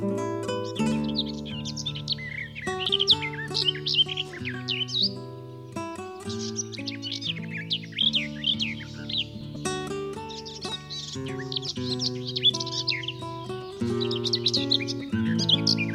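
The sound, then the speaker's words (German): A garden warbler sings a long, fast, bubbling warble of varied notes, continuous, over a steady background of sustained musical tones. “Das war die Gartengrasmücke.”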